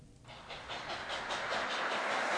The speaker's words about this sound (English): Every day, engines like this would run through Morehead and Olive Hill and areas that are pretty much untouched by rail access anymore. And we can't bring the rails back, but we can bring a piece of history back.